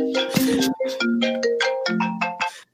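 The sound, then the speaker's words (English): A phone goes off during a conversation, its ringtone playing a short, bright melodic run of chiming tones, steady and fairly loud, lasting a few seconds before cutting off abruptly, with no talking over it. “I don't know how to keep my phone from going off, but there you go.”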